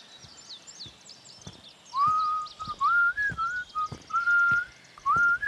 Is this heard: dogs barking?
no